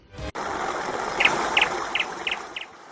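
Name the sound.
little bird singing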